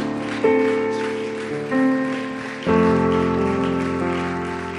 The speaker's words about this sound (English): Oh, come on, let's keep giving that hand clap to Jesus. Amen.